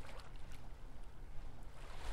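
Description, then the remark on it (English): Gentle salt-water waves about 3 inches tall lap at a beach shoreline in soft, irregular splashes, with the tide about 2 feet from high tide, a steady low rumble underneath and no voices, fairly quiet. “The waves are 3 inches tall and just lapping against the shore.”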